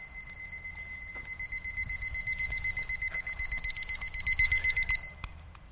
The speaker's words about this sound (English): There is a little clock here. I've never seen it, but I'm going to bring it with me in case it goes off again.